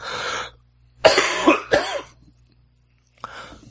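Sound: coughing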